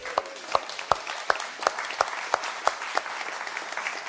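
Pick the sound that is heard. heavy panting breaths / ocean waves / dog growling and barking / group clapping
group clapping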